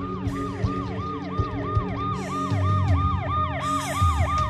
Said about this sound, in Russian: Долетевший до ушей вой сирены прервал воспоминания.